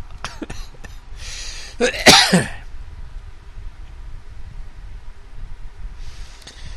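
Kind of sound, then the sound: human body sound, coughing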